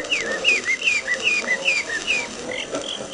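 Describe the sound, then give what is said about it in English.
A man's high, bird-like whistled song: a rapid run of short, sliding chirping notes in a steady rhythm, over the constant hiss and crackle of an old recording. “Listen again to a man purported to be singing.”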